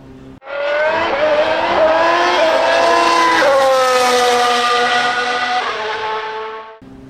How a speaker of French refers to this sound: Démarrez vos moteurs, puisque c'est un départ.